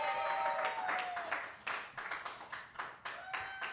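An audience applauds with dense, steady clapping that rises and falls in loud bursts, and a few sustained cheers or whistles ring out over the claps.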